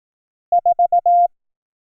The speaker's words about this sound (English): You've probably heard of Morse code as dots and dashes, but we're going to say dits and das.